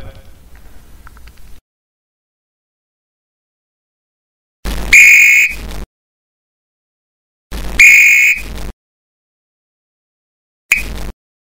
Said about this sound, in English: Now when I blow this whistle, that means you get a hustle. You got it?